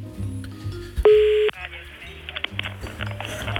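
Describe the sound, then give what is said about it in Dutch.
A loud, steady electronic telephone tone sounds once for about half a second as a phone call is placed, standing out sharply against quieter background music and voices before and after it. “Hebben we al gebeld?”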